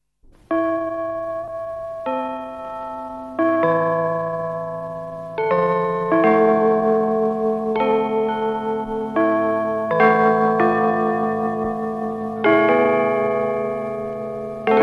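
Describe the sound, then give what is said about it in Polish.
Carillon bells from the Main Town Hall in Gdańsk, Poland, ring out a slow melody, each loud, resonant chime sounding about every second or two and ringing on to overlap the next, with no voices. “Znowu dźwięk gdańskich kurantów z ratusza głównomiejskiego rozpoczyna audycję poświęconą miastu naszych studiów.”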